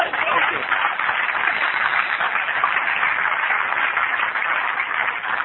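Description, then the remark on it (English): A sustained burst of audience applause, dense and steady throughout, many hands clapping together at even loudness without letting up, with no distinct voices rising above it. “I understand what we're applauding there, and it feels good to applaud that it does work.”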